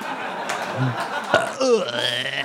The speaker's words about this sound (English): I'll burp again.